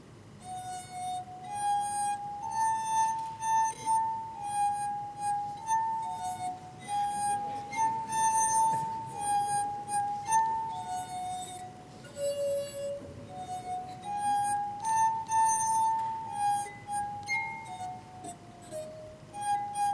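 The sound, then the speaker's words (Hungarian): A tune played with a finger on the water-wetted rims of drinking glasses: pure, sustained singing tones that step from note to note in a slow melody, ringing steadily for the whole stretch with no voices. “Gyorsan bevizezem a poharak száját, és remélem legalább egy ember föl fogja ismerni, hogy mit játszok.”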